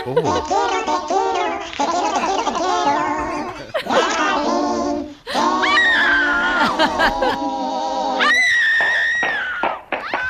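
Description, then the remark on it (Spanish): A woman screams loudly and repeatedly in high, strained bursts across the whole clip with brief pauses, her voice wavering and rising sharply toward the end. “¿El grito era tu novia”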